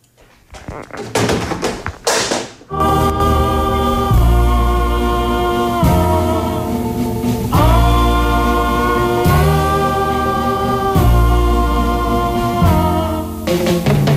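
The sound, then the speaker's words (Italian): A brief musical interlude: after a couple of seconds of soft knocking, loud, full instrumental music kicks in with sustained chords, a deep bass line and a steady beat that repeats in sections. “breve intermezzo musicale e poi passiamo a vedere che cosa dicono i giornali al loro interno.”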